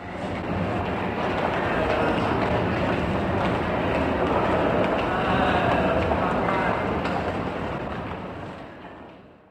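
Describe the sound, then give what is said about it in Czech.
A train to Brno, leaving from platform two, rumbles steadily along the rails, a loud, continuous roar of wheels and carriage noise, easing off in the final moment, with faint indistinct voices in the background. “A tamhle stojí náš vlak.”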